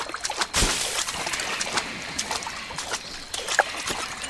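Steady watery splashing and sloshing of a video game character wading through water, with a few sharper splashes standing out. The sound is moderately loud, with no voices.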